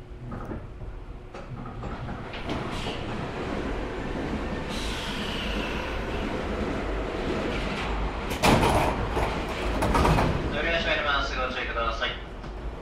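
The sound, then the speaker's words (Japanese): A packed commuter train rumbles steadily and slows into Akihabara station, Japan, with a burst of clatter as the sliding doors open and a faint, warbling high tone near the end, over indistinct voices. “寿司詰めの車内から吐き出された。”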